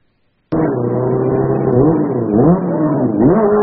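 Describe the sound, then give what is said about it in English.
A motorcycle engine starts roaring abruptly and loudly during a wheelie, its pitch climbing in several quick revving surges over a steady rumble, with no one talking. “Okay, if you try to show off to your friends by doing a wheelie on your motorcycle, what is the then?”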